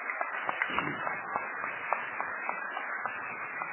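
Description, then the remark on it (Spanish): An audience applauds steadily, a dense wash of many hands clapping with sharper individual claps popping out throughout. It stays at an even, moderate level for the whole stretch, with no voices over it. “Bueno, es un hombre acostumbrado a los aplausos, así que adelante.”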